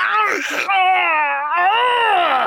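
A strangled, agonized cry rises close and loud, a strained, wavering wail held for about two seconds with a rough, noisy start and no other sounds around it.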